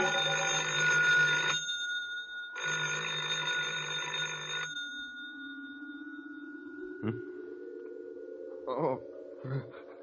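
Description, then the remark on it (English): A telephone rings twice in loud, buzzing bell bursts separated by a short pause, followed by a steady low electronic hum with a few faint clicks. “I thought I heard the phone.”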